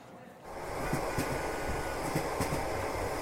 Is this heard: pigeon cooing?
no